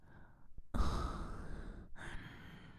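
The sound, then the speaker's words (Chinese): A woman's heavy, breathy exhale after sex, followed after a brief pause by a second, shorter breath out, like panting with no words. “这股性爱的余晖通过我的喘息出的哈气，传给弟弟一些吧。”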